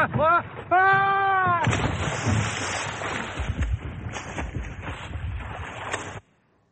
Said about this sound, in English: First, I'll take off the motor. Oh, man. Look at this beauty. An old single-stroke Volvo Penta.